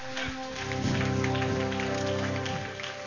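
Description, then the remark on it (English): A church audience gives the Lord a clap offering, clapping together in a dense, continuous patter that holds steady for about three seconds, with a sustained low musical tone humming underneath. “Now give the Lord a clap offering with the other hand.”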